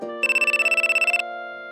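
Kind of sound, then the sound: signal or alarm, phone ringtone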